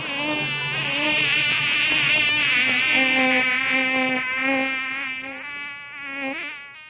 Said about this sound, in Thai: น้องยุงเราคงต้องบินไปอยู่ที่หมู่บ้านอื่นแล้วล่ะ